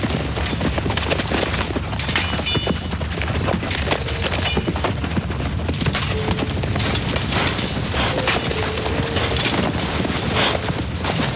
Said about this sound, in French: Et voilà 2000 cavaliers qui me passent sur le corps. Excusez du peu. La terre tremblait, je la sentais bouger dans mon ventre. 2000. Un galop qu'on ne reverra jamais.